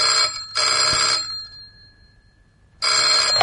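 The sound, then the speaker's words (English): A telephone bell rings loudly in a double burst, its metallic tone lingering briefly through a short pause before the ringing starts again. “I put down the phone, but a few minutes later, it rang.”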